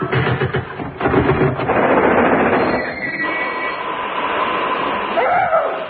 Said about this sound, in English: A puff-puff train. How nice of you to meet me at the station, Major.